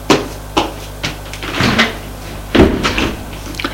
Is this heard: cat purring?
no